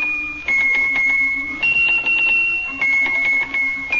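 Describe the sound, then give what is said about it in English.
Small Swiss hand bells on a little table, picked up and shaken one after another by the mouse Squeaky to play Little Liza Jane, each ringing a sustained bright note with rapid jingling strikes, the pitch shifting between bells like a simple tune. “They're little teeny bells, and when he picks one of them up and shakes it, it makes a note.”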